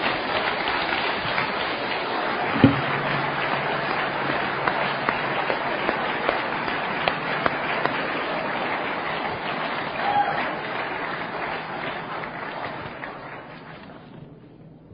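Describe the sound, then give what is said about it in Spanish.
An audience bursts into sustained applause to the Lord, a dense wash of many hands clapping together, loud and steady before gradually fading out near the end. “Den un aplauso al Señor por lo que el Señor acaba de hacer.”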